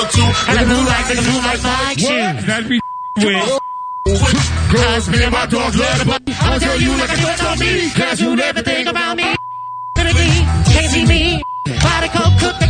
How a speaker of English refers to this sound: By the way, just for the record, we beeped all of the F words and all the cursing.